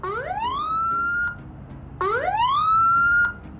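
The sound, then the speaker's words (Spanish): A police siren, switched on to pull over a blue car, gives two loud rising wails, each sweeping up in pitch and holding a high note for about a second before cutting off sharply. Nobody speaks. “Préndele los códigos.”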